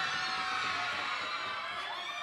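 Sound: crowd cheering and shouting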